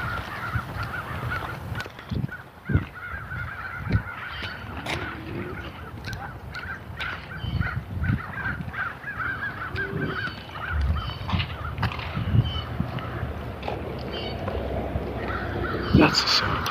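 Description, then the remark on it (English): About ten crows flying around outdoors in the morning caw repeatedly, their harsh calls overlapping over a steady background hum, with a voice occasionally heard. “You can probably hear the crows. There's like 2, 3, 4, 5, 6, 7, 8, 9. There's like 10 crows flying around.”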